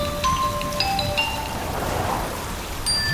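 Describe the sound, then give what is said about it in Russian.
Soft, steady rain patters continuously, a light drizzle texture throughout, with a few faint high chiming tones ringing over it. “Пишет: как дождь закончится, возвращайтесь к бабушке.”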